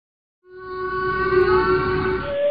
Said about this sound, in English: The sounds of a humpback whale.